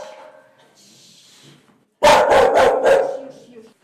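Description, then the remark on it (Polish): After a couple of seconds of quiet background, mixed-breed dogs burst into loud barking, a quick run of about four sharp barks in rapid succession. “moje wszystkie kundle.”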